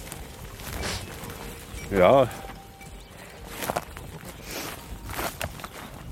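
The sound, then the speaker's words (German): A herd of 150 Toggenburg dairy goats trots in a long line, one behind another, on the way to the heath in Brandenburg, first through a mixed forest; their small hooves patter in a steady, uneven stream over the ground, with a brief voice cutting in near the middle. “In einer langen Reihe trippeln sie hintereinander her.”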